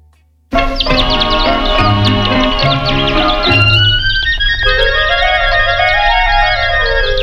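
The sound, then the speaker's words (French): After a brief pause, the introduction of an old-style French chanson recording bursts in loudly with steady instrumental accompaniment, bright chirping high notes that imitate birdsong, and a sweeping rising-and-falling melodic glide near the end. “on commence tout de suite avec justement, eh bien, ce titre, ….”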